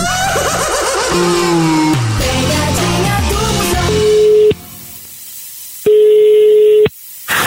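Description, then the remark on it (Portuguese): A phone call goes through: a run of shifting electronic dial tones, then two loud, steady ringback tones, each about a second long, separated by a pause. “O velho liga agora pra Dona Ivone, ouve aí, ó.”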